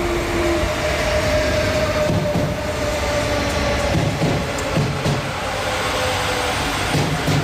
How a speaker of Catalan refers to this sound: I avui, divendres 23 de gener, els trens han tornat a circular. I poc ens imaginàvem que aquest so ens semblaria música celestial.